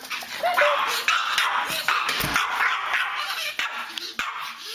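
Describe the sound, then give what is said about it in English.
A Pomeranian yips and barks in quick, high-pitched bursts with some whimpering, fairly loud, over a busy background of noise that continues throughout. “take, for instance, Boo the Pomeranian”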